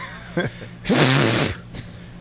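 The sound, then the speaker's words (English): A short intake of breath, then one loud sneeze bursting out with a strained, voiced edge for about half a second before fading to quiet. “Yeah, I try to teach my kung fu when I sneeze.”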